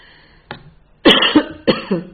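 A short coughing fit: a faint cough, then a burst of several harsh, loud coughs in quick succession, with no talking.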